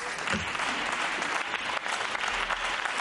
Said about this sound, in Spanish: Se levanta la bancada del Partido Popular para aplaudir el discurso de Juanma Moreno, que en unos minutos va a ser investido, va a ser votado como nuevo presidente de la Junta de Andalucía.